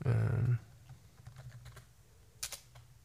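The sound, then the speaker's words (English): A quick burst of computer keyboard typing, as ASMR is typed into a YouTube search, a dense clatter of keystrokes, then a few scattered soft taps and two sharper clicks near the end. No one speaks. “So, just in YouTube, typing in ASMR”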